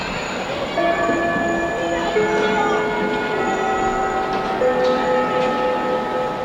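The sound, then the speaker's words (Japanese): A school chime signaling the end of class plays a slow melody of ringing bell tones, each note starting every second or two and lingering so the notes overlap, with a faint hum of background noise underneath. “授業の終わりを告げるチャイムが鳴るや、いそいそと部室に向かった学校時代。”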